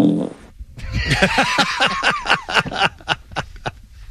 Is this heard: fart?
yes